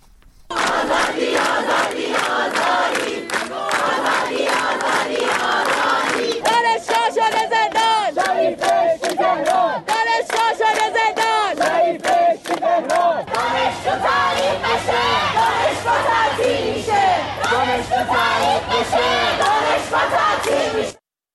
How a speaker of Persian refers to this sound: در برخی دانشگاه‌ها، از جمله در دانشگاه علامه، راهپیمایی اعتراضی و سر دادن شعارها از بامداد سه‌شنبه آغاز شده.